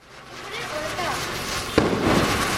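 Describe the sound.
Fireworks and firecrackers crackle and pop continuously during Diwali celebrations in Kolkata, India, amid a noisy outdoor din, with one sharp, loud bang standing out near the end and indistinct voices in the background.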